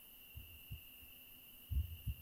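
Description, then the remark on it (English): A human heart beating in the chest: two pairs of soft, low thumping beats in a steady lub-dub rhythm, over a faint constant electronic whine and hiss. “Can you hear my heart beating in my chest?”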